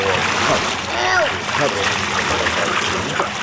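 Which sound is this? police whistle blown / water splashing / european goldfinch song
water splashing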